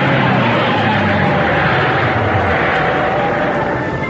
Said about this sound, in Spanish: El pequeño auto se zigzagueó peligrosamente en la carretera.